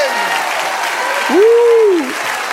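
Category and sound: crowd, audience applause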